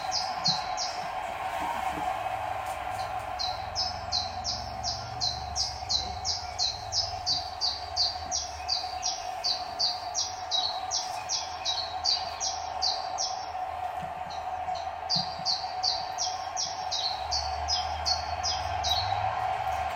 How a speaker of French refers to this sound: Un autre oiseau avec un autre style, mais qu'on entend beaucoup, beaucoup là depuis quelques semaines.